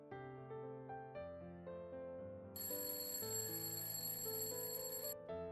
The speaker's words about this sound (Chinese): 闹钟响了起来，琪琪从这个可怕的梦里醒来。